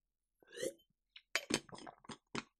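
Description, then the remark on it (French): Someone takes a sip of a Play Endurance drink: a soft slurping rush, a brief pause, then a run of short wet clicks and light glassy taps, fairly quiet, with no talking. “Je prends une gorgée de Play Endurance.”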